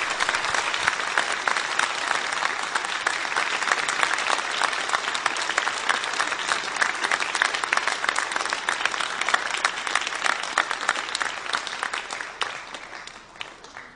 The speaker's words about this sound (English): It was a tremendous effort that they put in, and we do thank them very much for their work tonight. Let's give them a round of applause, please, again for their work.